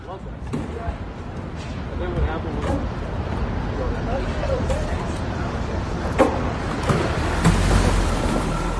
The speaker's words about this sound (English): at least we imagine that truck, you know, zooming off down to Fort Myers, Florida. Let's take a listen to that. It just sounds melodious.